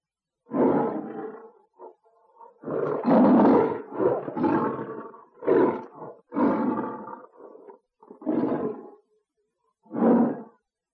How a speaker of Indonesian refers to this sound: Betul, suara harimau mengaum. Anak-anak, tahukah kalian mengapa anak-anak bisa menyanyi dan harimau dapat mengaum?